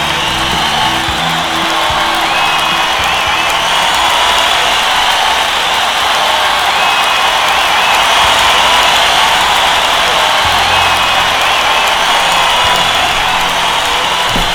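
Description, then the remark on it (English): A large crowd cheers and applauds in a loud, continuous roar that holds steady for the whole stretch, a dense wash of clapping and shouting with no single voice standing out. “While the crowd was going crazy, I filled up my water bottle.”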